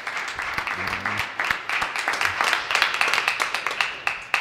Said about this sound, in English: That applause also goes to